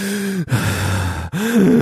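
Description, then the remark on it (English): A voice imitates the heavy, labored breathing of police officer Geronimo Yanez in his car, as picked up on dash cam audio: three loud, drawn-out gasping breaths with brief pauses between them, each breath rough and partly voiced, like someone panting after exertion. “He returns to the car and you hear him breathing like this.”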